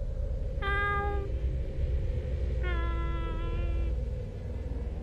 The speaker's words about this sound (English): Back inside the shack, the meowing outside returned.